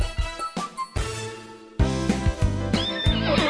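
A horse neighs loudly, a long quavering whinny that breaks into several shaky bursts and trails off, with no voices around it.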